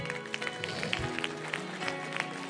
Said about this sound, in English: Come on, give them a hand clap as they come this morning.